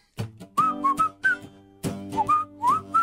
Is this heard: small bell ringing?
no